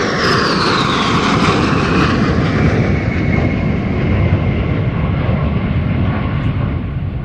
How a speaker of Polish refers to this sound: mieliśmy tutaj piękne dwa przeloty trzech samolotów Su-22